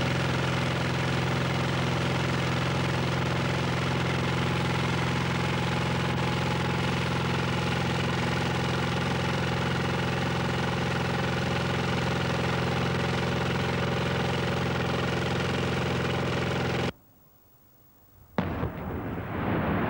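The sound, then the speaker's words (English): A heavy machinery engine at a slate quarry runs loud and steady with a low droning hum, then cuts out abruptly near the end before briefly starting up again. No one speaks. “Men were lifting slate onto rail trucks by hand. We are now doing it by machines.”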